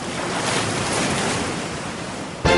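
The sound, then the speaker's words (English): Steady ocean surf washes and roars continuously, a broad hiss of breaking waves with no voices, ending in a brief louder surge. “Okay, let me get those shoes out of the ocean.”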